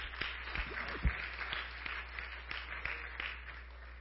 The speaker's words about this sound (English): Would you give them a hand clap? Thank them for being with us.